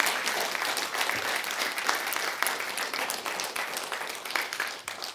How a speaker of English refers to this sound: Give the Lord a clap offering this morning.